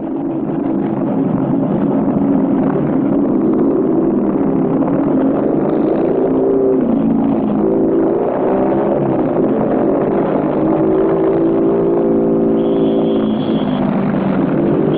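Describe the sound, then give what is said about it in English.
Ten motorcycles ridden in a chevron formation around the curve of a track at sunrise, followed by a big black car, rumble past in a loud, continuous engine drone, with pitch rising and dipping slightly as the vehicles move, and no voices. “Around the curve of the track ride 10 cyclists in a chevron formation, followed by a big black car.”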